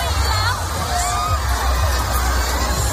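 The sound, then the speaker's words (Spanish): A dense crowd of mostly young people, trapped and suffocating in a stampede in a narrow alley, shrieks and yells in panic, many overlapping high-pitched screams rising over a constant low rumble of bodies and noise, loud throughout. “Gritos desesperados de la gente que se estaba literalmente asfixiando.”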